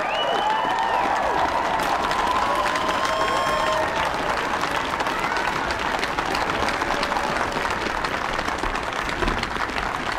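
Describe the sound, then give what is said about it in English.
A large crowd on their feet applauds steadily at the inauguration as Joseph R. Biden, Jr. is introduced as the 46th President of the United States and approaches the lectern, with scattered cheers and whistles rising above the dense, constant clapping, which stays loud and unbroken throughout. “The crowd on their feet now.”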